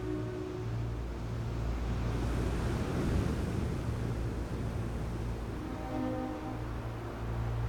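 A steady wash of sea surf and wind noise rolls on along a coast of craggy headlands and bays, swelling louder at one point before easing back, with a faint low hum underneath and no voices.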